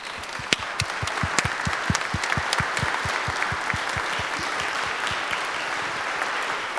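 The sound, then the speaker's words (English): A church audience applauds its church school volunteers steadily, the dense clapping at a fairly loud level, with a few sharper individual claps standing out. No one speaks over it. “So in addition to seeing all these kids, I'd also like all of our church school volunteers and church school substitute volunteers to stand up so that we can give you a round of applause.”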